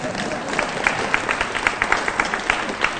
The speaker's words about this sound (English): Yes, yeah, everybody can clap. Yes.